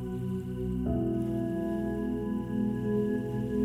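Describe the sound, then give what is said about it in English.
Steady, gentle water sounds of small waterfalls and gently flowing water, with a soft splashing, trickling texture, continuous throughout, joined partway by a low sustained tonal hum underneath. No one speaks. “You can hear the sounds of small waterfalls around you. Water flowing gently.”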